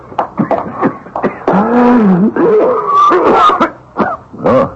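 A man coughs hard and repeatedly, harsh rasping hacks broken by strained, groaning breaths and throat clearing, loud and uneven across several seconds.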